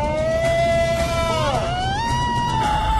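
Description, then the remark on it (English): A member of the team on the Animal Planet show Finding Bigfoot imitates a Bigfoot call: one long, loud, sustained howl held at a high pitch, wavering and dipping in the middle before climbing again, over a steady noisy background. “My role on the team is to do the loudest, furthest carrying Bigfoot calls.”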